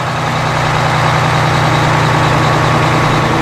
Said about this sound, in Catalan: Si sou usuaris del tren, sabreu que aquest és un so que ara se sent manco que fa mig any, i és que els ciutadans arran de la pandèmia ja no van tant amb transport públic.